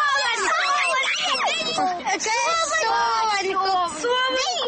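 children playing

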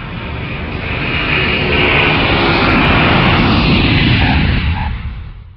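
airplane landing

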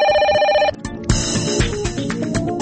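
telephone ringing

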